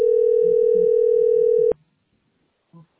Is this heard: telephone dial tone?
yes